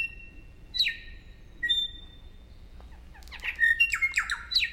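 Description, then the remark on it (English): A korimako (New Zealand bellbird) sings: two clear, bell-like whistled notes with pauses between, then a quicker run of bright, liquid chiming phrases. Quiet background, no talking. “Korimako are 8-inch mossy green birds with dark wings and tail, a purple sheen on the face, and red eyes.”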